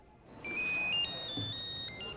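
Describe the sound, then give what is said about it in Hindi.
A telephone rings with a bright electronic ringtone, steady stacked tones sustained for about two seconds, fairly loud, with faint background noise underneath and no talking. “वो फोन उठाओ।”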